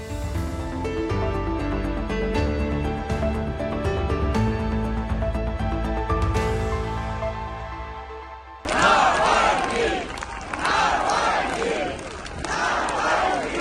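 crowd chanting a name

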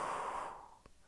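long exhale

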